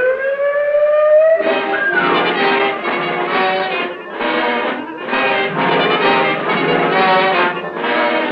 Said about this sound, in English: Buzz the sirens!